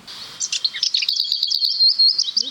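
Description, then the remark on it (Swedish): A lesser whitethroat, a small grey warbler, sings: a brief scratchy warble of a few high notes, then a fast, dry, even rattle on one pitch, clear with no voices. “Det här är en ärtsångare.”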